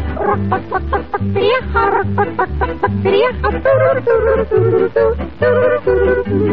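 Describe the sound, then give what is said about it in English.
An imitation of old setting hens cackling, busy, squawky and continuous, with a steady rhythmic low accompaniment pulsing underneath throughout, fairly loud. “When we begin to cackle, one thing they wouldn't miss was the old hens joining on the chorus, and it sounded just like this.”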